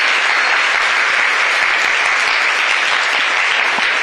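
Loud, sustained applause from a crowd for a presenter who gave a talk, a dense steady wash of many hands clapping at once with no pauses, filling the whole clip at high volume.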